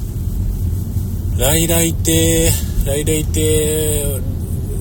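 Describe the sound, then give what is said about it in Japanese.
A car engine rumbles low and steady as another vehicle rolls into the full parking lot of a Rairaitei restaurant, with a person's voice making drawn-out vocal sounds over it through the middle. “ライライテもう今日はライライテじゃないけれども、まあ何しか車がいっぱいでも無理ですね。かつ今1台また入りましたし、ライライテさんはやめとこうと。”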